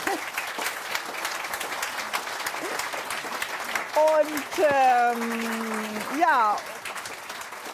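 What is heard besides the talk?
audience applause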